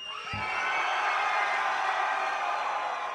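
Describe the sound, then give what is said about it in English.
A large concert crowd in Orlando screams and cheers together in one loud, sustained roar that holds steady without pause for the whole stretch, with no one speaking over it. “Okay, I want y'all motherfuckers to scream like it's coming from your soul, okay?”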